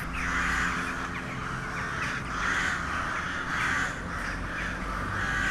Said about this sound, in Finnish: minkä takia mustavarikset raakuvat nyt noin ankarasti? Että onko tässä nyt jotain vaaraa lähettyvillä? No se vaara on minä, mitä nyt osa mustavariksista huomasi, että täällä on taas se sama mustavarisharrastaja häiritsemässä